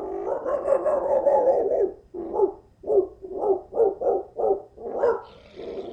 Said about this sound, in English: And she's very, very protective. Would she scare me if I saw her? Probably. She's so protective that every time when people come to the door, she starts to bark.